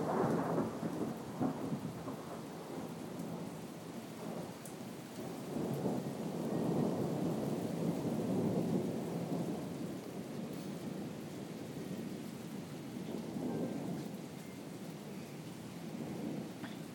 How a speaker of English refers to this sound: The point of this audio boot is we are stuck in the middle of... Well, not stuck. We are sitting in the middle of a storm.